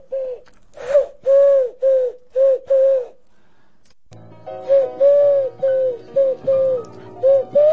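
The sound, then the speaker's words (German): A person's voice imitates a pigeon in a radio studio, giving a steady run of soft, rounded coos. After a brief pause the cooing resumes over a low, busier background hum. “Ist hier eine Taube im Studio? Das gibt's doch nicht.”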